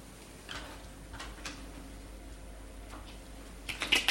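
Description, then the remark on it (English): A pack of playing cards being shuffled: a few soft, scattered papery taps, then a quick fluttering riffle near the end. Quiet overall, with no one speaking. “So I've got a fair pack of cards here. You just have to take my word for it, and I'll shuffle them.”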